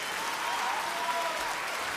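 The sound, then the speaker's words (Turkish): Steady audience applause, a dense crackle of many hands clapping at an even level throughout, with no voices standing out. “Vallahi çok alkışlıyım.”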